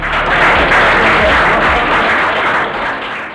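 Dense audience applause, many hands clapping at once in a steady, loud wash of noise that holds for a few seconds before easing off slightly at the end.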